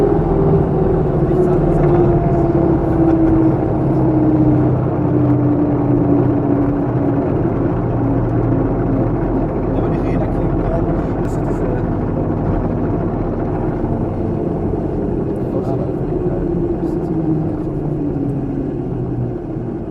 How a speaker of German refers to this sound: Soweit der Flug und hat mir riesen Spaß gemacht und was ganz witzig war, ist ein relativ kleines Flugzeug, also es ist wirklich sehr kleines Flugzeug